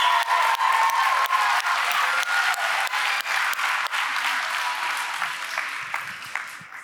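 A crowd applauds steadily, dense clapping filling the room at close range for several seconds before gradually thinning and fading out.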